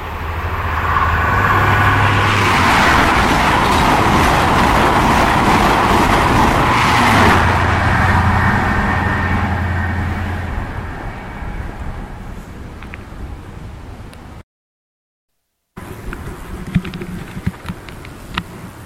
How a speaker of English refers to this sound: so I've jumped out to replicate something I used to do all the time when the kids were with us, to stand right at the barriers while a high speed train goes past and I hear it coming.